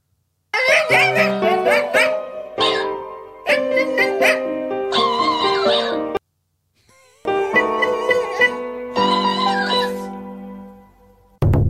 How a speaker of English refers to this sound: The dog hears that and, of course, starts to sing along. That is why this dog is reacting the way it does. And then you get the music that is added.